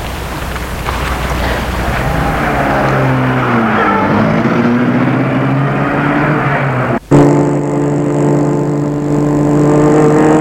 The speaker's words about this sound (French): Judith entre dans sa voiture et la met en route.